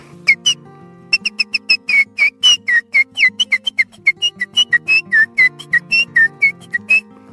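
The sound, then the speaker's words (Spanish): A person whistles an imitation of the call of the calandria, a tropical oriole species: a long run of quick, bright, high-pitched notes in a steady, chattering rhythm, loud and without talk. “voy a emitar una especie que es tropical, que es la calandria.”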